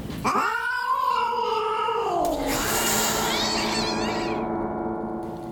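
A cat lets out a loud, drawn-out yowl that bends and slides downward in pitch, then breaks into a harsh, wavering screech with hissing noise, no one speaking.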